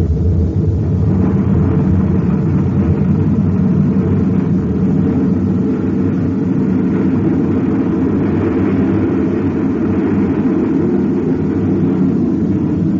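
Spaceship rockets fire in a loud, steady, deep roar that holds unbroken for over ten seconds, rumbling, with no voices over it, as the ship fires its rockets to get away from a uranium bombardment.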